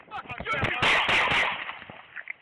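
Police fire a rapid volley of gunshots at a man running away during an attempted arrest: several sharp, loud cracks in quick succession, with three especially harsh bursts in the middle, over indistinct voices and noise.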